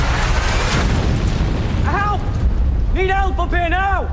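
A loud, rumbling car crash explosion from the ITV crossover Corriedale, between Coronation Street and Emmerdale, roars steadily for a few seconds, with wavering, rising-and-falling cries or wails sounding over the continuing rumble near the end.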